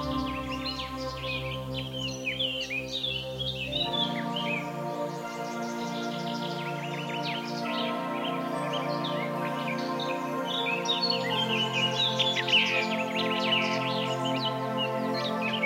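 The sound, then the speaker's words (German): A dense early-morning dawn chorus of songbirds in a park or garden, with robin, blackcap, song thrush and chaffinch singing in the foreground, their overlapping trills and whistles continuous over a steady low background hum. “Im Vordergrund Rotkehlchen, Mönchsgrasmücke, Singdrossel und Buchfink.”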